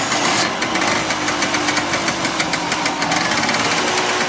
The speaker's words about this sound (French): Si je vous dis Dolce Vita, vous pensez à quel véhicule italien? Ouais, on est proche de la Ferrari. On peut les voir en rouge. On est sur un moteur deux temps et de plus petite cylindrée qu'une Ferrari. Ça s'appelle plutôt du côté d'une Vespa.